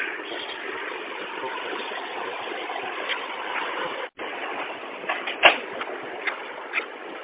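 A printer runs with a steady mechanical whir, then unlocks with a sharp click and a couple of softer clunks as it opens after the unlock printer button in its settings is touched, with no talking.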